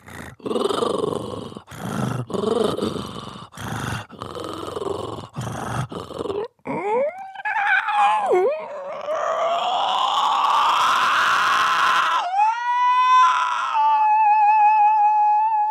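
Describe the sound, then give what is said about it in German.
A human voice imitates a cat's purr, demonstrating part of a vocal piece about cat purring: a run of loud, rhythmic, raspy rumbling pulses, then gliding, wavering tones that end on a high, steady, whistle-like note. “Und ich kann jetzt einfach mal mit der Stimme ein bisschen schnurren.”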